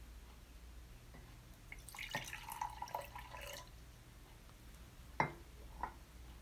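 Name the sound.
drink being poured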